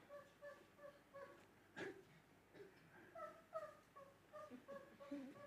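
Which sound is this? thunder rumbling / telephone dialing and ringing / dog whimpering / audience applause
dog whimpering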